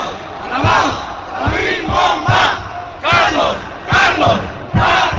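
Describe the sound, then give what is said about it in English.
A large crowd of hundreds of thousands of oil workers at a massive Mexico City rally in defense of their union leader Carlos Romero Duchamps shouts and roars in loud, surging waves, with rhythmic bursts of collective chanting rising every second or so over a constant dense din of voices. “Hundreds of thousands of oil workers took to the streets in defense of their leader, Carlos Romero Duchamps.”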